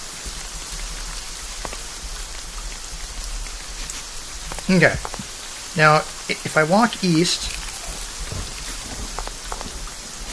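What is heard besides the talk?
heavy rainstorm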